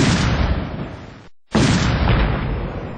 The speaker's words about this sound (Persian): اما با صدای انفجار دوم نیروهای امنیتی به سوی مجلس عمومی شتافتند و تمامی نمایندگان و خبرنگاران را جایی که نسبتاً مسئول بود انتقال دادند. صدای انفجارهای پیهم و تیراندازی به گونه‌ای پراگنده شدت گرفت.